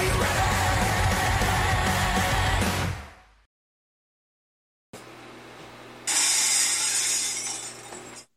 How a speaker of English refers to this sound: All right, better late than never with the glass shatter. I love it.